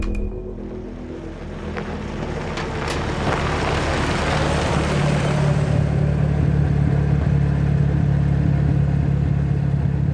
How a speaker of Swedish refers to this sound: sitter i hans bil, en Aston Martin. Vi stannar framför en annan industrilokal 20 minuter bort.